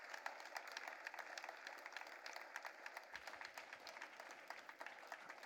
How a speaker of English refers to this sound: Let's keep clapping. Let's keep clapping. Let's keep clapping.